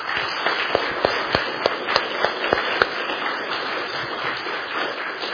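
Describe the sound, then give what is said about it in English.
Audience applause thanking the speakers at the end of a weekend event, a dense, steady wash of many hands clapping, with a few sharper individual claps standing out in the first three seconds, holding at an even, moderate level throughout. “And if we could give them one more round of applause and just express our thanks to them.”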